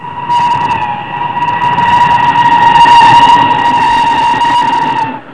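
A train rumbles past for about five seconds, a loud steady roar with a sustained high, horn-like tone riding over it before it cuts off. No one speaks.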